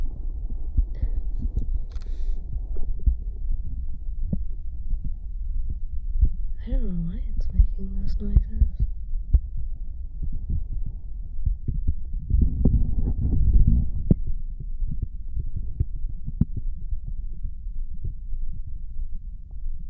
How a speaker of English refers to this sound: I think you can hear my heartbeat faded out. You're on my stomach area.